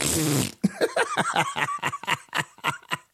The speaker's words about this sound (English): He talking about sitting up there in the House farting hard. We will fart hard for the freedom to vote.